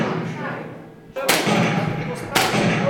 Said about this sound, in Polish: Teraz proszę oddać 3 strzały, jak nie bierze tego trójkąta. Znaczka.